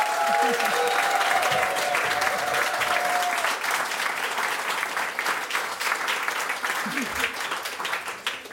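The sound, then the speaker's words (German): Enthusiastic applause from the audience in Celle at a recording of the radio show Meyer Burckhardts Frauengeschichten, greeting guest Bärbel Schäfer, fills the whole stretch, dense and steady with many hands clapping, fading a little toward the end, while a few brief voices and a whistle-like tone poke through early on. “Nein, es ist tatsächlich das Celler Publikum, was so leidenschaftlich ja. sich über Bärbel Schäfer freut.”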